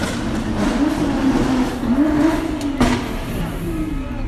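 A car engine revs steadily, its pitch climbing and dipping in repeated surges, with a brief sharp crack partway through against a constant rumbling background.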